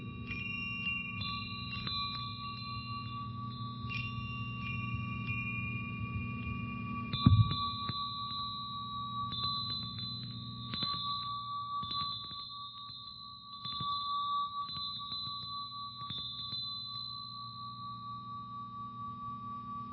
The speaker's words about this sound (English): Now, of course, this bell, this handheld bell, has more metals than seven in it. I'm not sure. It might be a 13-metal bell. And, of course, you notice it rings a lot longer than the other set of bells with only the seven metals.